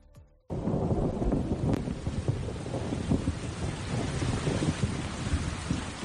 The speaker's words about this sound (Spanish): Qué miedo da una tormenta eléctrica como esta, ¿verdad?